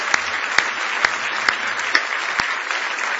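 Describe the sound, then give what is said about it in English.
An audience at an evening church service claps together as praise to the Lord, a steady wash of applause with sharper, louder claps standing out at regular intervals, without any talking. “Go ahead and give the Lord a good hand clap of praise tonight.”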